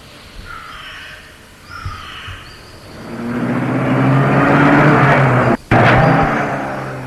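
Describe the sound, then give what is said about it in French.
A few bird calls sound outdoors, then a car engine swells into a loud, steady rumble as the car drives away, with a brief cut near the end. “Et la voiture est partie.”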